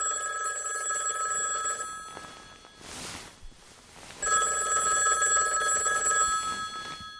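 A telephone rings twice, each long burst a bright, steady electronic trill rich in high overtones, separated by a pause of near silence. No one speaks.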